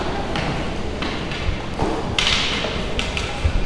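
A white cane taps in an uneven rhythm while climbing the stairs at a post office entrance, about half a dozen sharp knocks and soft thuds against the steps, over a steady hiss of outdoor background noise.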